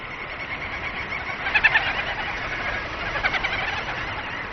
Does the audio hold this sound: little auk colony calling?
yes